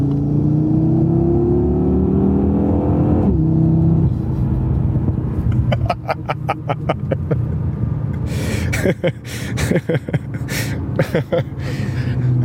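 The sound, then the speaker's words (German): A 500-horsepower car engine revs up and accelerates loudly as the driver presses the gas, its rising whine climbing in pitch, then shifting gears with sharp crackling pops and bursts from the exhaust as it roars. “Boah, also das gibt einem Puls, das gibt einem schwitzige Hände, das gibt einem Grinsen ins Gesicht und wir sind noch weit weg von dem, was das Auto eigentlich kann. Ich drück aufs Gas, hör die 500 PS.”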